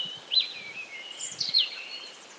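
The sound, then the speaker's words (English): Birdsong on top of a hill in a rural area of Germany drifts across open air: thin, high whistling notes with two brighter chirping bursts rising above them. The song sounds fairly soft, with no voices. “And the bird song is just beautiful from the top of this lovely hill.”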